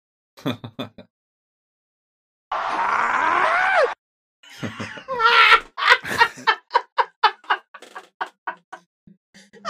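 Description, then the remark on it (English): The Howard Dean scream played backwards after being edited in Audacity: a loud, harsh wail lasting about a second and a half, its pitch sliding oddly. It is flanked by choppy bursts of garbled, reversed-sounding vocal noises. “And I just happened to put it in reverse, and it in reverse is one of my favorite sounds in the world.”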